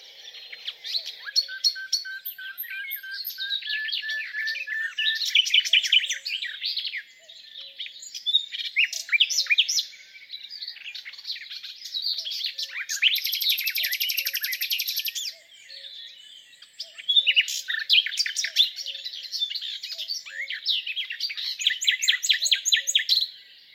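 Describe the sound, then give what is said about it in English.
A nightingale sings alone in rich, varied phrases of whistles, rapid trills and chirps, repeating in bursts with short pauses between them, clear. “And my obsession? Yes, it's the nightingale.”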